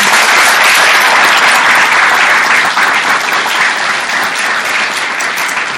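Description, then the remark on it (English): An audience at a candidate forum in Ann Arbor applauds the mayoral candidates loudly and steadily, a dense wash of many hands clapping that holds for several seconds before easing off slightly toward the end, with no voices over it. “A big round of applause to our candidates, one of whom will be the mayor.”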